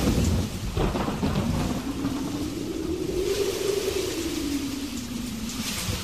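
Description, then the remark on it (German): A thunderstorm rumbles with a long, rolling peal of thunder over steady, hissing rain, loud throughout with no voices. “Und dann kam der Sturm.”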